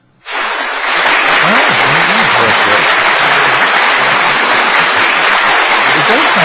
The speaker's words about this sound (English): We're pulling up the applause clap.